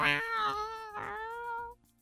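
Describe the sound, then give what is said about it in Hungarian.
A cat gives a long, drawn-out meow with a rising then wavering pitch, lasting nearly two seconds, fairly loud before cutting off into quiet. “A tiétek így nyávogra éles.”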